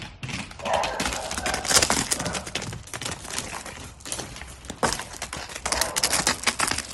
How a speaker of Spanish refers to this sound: escucha, llega corriendo feliz. Es chulo, un ternero que pesa 131 kilos.